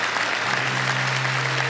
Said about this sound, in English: Oh, come on, church. If you're going to clap for something, you're going to clap for that.